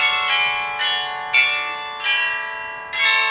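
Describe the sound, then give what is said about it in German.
A carillon outside St. Joseph, the oldest Catholic church in northern Germany, rings out with a series of bright bell strikes, roughly five notes in an irregular melodic sequence, each ringing on with long overlapping resonance; moderately loud and heard without any voices. “Der Krieg hat zwar nur die Barockfassade stehen gelassen, aber ein Blick hinein lohnt dennoch, auch das Glockenspiel draußen.”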